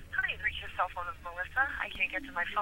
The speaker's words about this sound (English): And let's see what happens if I call her cell phone like I did.